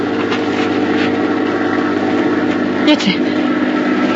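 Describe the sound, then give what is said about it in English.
An airplane engine drones steadily at night throughout, a continuous low, humming roar with layered tones that holds an even loudness, with a brief voice-like sound breaking through near the end. “It's a plane. A plane.”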